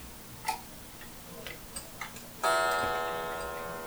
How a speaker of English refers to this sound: Alright, there it goes. I'm more or less synchronized with the church clock down the street, which I can hear coming through the window.